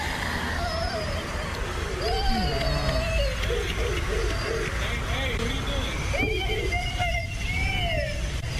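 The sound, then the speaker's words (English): A little boy screams and wails in distress over a steady wash of traffic noise, the high cries rising and falling continuously as a white SUV speeds off. “The white SUV speeds off, trailed by the screams of the distraught little boy.”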